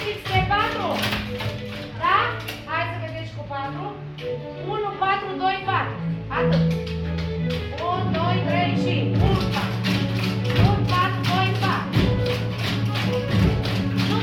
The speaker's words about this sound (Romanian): Țin ritmul cu mâinile și pixurile pe bancă și învață în același timp măsurile din muzică.